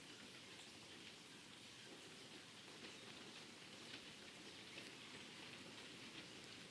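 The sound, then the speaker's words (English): Steady rain falls continuously, a dense, even hiss of drops pattering on a surface with no pauses or other sounds, constant throughout. “And the rain nourishing, providing for the ground, for the soil,”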